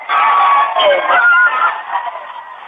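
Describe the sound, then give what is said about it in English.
Thousands of people at the South Carolina State Museum in South Carolina scream and cheer all at once as darkness falls during a solar eclipse. A dense, loud roar of overlapping voices with shrill whoops rises above it, holding steady before easing slightly toward the end. “There's thousands of people here at the South Carolina State Museum.”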